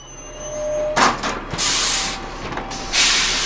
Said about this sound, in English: stands in the wind about to board his bus at the North Hanley Metro Station.